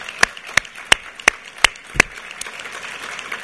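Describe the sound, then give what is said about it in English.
Applause for the leaders of a delegation, in the form of a handful of sharp, evenly spaced claps, six crisp strikes in a steady rhythm, then a few fainter ones fading out. No one speaks. “give them a round of applause for the terrific job they have done in putting that group together.”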